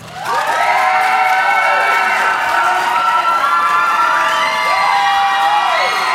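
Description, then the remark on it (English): A loud crowd cheers and whoops continuously for several seconds for a contestant, Poggle the Lesser, measured on an applause meter, high excited voices rising and falling over a steady wash of applause, with no one speaking. “We have the applause meter up.”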